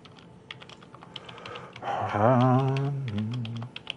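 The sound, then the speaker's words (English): Rapid, irregular clicks of someone typing a password on a computer keyboard while setting up a database login, steady throughout, with a brief low hummed voice rising over the keystrokes midway before fading out. “I wish I could talk and type passwords.”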